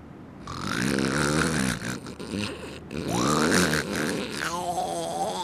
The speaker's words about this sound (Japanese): チェ、人を喜ばせといて自分は高いびきか。要するに寝たかったってだけのことじゃないか。